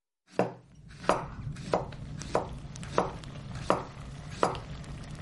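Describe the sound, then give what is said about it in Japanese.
A kitchen knife chops steadily on a cutting board, seven or so crisp knocks at an even pace, with a low background rumble and no voices. “久々でオーナは包丁を持ち、クリアに立った。”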